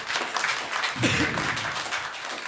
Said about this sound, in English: All right. Clap it up